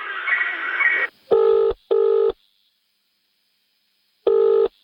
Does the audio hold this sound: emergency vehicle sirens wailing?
no